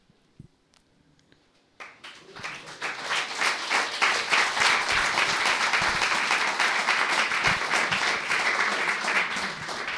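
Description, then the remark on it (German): After a brief quiet moment, an audience bursts into applause during a talk presenting a small Web 2.0 website, the clapping swelling quickly to a steady, dense roar of many hands that continues loudly to the end. “Okay, nach dem Applaus komme ich jetzt noch schnell dazu, was nicht drin ist.”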